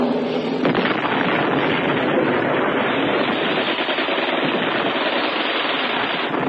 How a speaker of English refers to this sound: Then, as the leading motorcycles drew level with Dmitry's position, 1 of them touched off a mine.